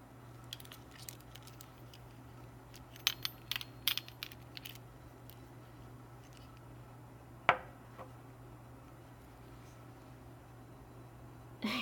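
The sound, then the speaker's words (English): Light metallic jingling and clicking of keys, followed by a sharp clunk as a lock turns and a door is pushed open, over a steady low hum. “I'll just take my keys and let go. I don't want to, but I do have to open the door, huh?”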